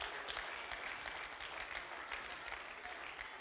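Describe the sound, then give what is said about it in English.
A church audience claps steadily as the children head out to their own space, TNK, many hands blending into a dense, even patter of applause that holds at a constant level for the whole stretch, with no voices over it. “So why don't, if the kids want to head out over to TNK, give them a clap.”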